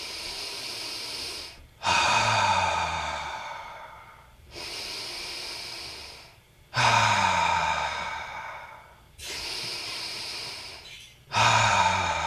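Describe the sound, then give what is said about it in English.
Slow, deep breaths drawn in through the nose, fairly loud, with each long airy inhale pushing the belly out, followed by a steady exhale, repeating in an even rhythm about three times, no talking. “When I breathe in through my nose, I want myself and everyone to draw a circle.”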